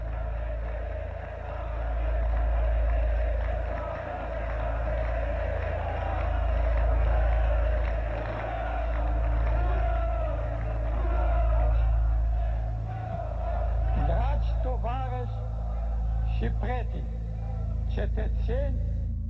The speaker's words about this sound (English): Ceausescu stepped out onto the balcony of the Central Committee building in Revolution Square, Bucharest. As he waves to the crowds below, almost deafening cheers ring out.